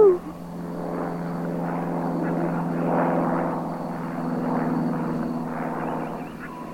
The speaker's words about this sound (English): I was under the thick green trees. I couldn't see the planes. I could only hear them.